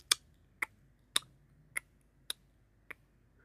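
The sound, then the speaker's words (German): Six sharp tongue clicks at a steady, slightly uneven pace, mimicking a clock's tick, crisp against a quiet background with no talking. “Da war ein Ticken hinter ihr, wie das einer Uhr. Und doch klang es anders, es klang wie eine menschliche Zunge, die das Ticken nachahmte.”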